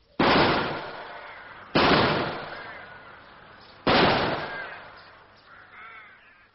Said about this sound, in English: Shots went about 20 feet over my head. I was never in any danger.